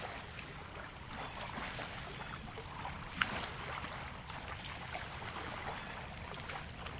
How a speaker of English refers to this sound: For this week's Hudson River Soundscape, Sean Anderson and I record a speeding boat hundreds of yards away as it passes a quiet cove at Norrie State Park in Stattsburg, New York.